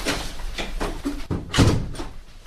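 door being closed

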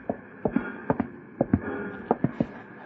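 horse hooves clip-clopping

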